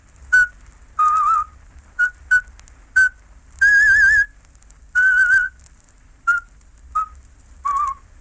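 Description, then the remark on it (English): A Slavic radio presenter whistles a traditional folk song to open his talk, clear and fairly loud, mixing quick short notes with longer held, wavering tones in separate phrases, with no talking. “The Slavic presenter started his talk by whistling a traditional folk song, whose refrain went, "Out with them, out with them."”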